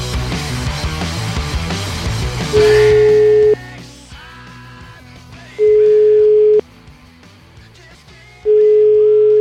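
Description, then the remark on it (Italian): A telephone ringback tone sounds while a call is placed: three steady one-second tones spaced about three seconds apart, loud and clear, with music fading out underneath at the start. “Vai, chiamiamo.”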